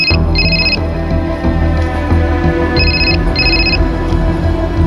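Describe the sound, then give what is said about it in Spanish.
A telephone rings in two double bursts of bright electronic trilling, separated by a pause, over a steady low hum of background noise in the 091 police emergency room in Castellón at 16:20 on 20 December 2005, as a call comes in for the duty officer. “El policía de servicio al teléfono atiende una llamada que lo alarma de forma inmediata.”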